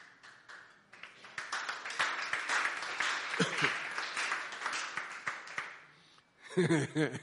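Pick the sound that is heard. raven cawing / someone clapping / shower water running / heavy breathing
someone clapping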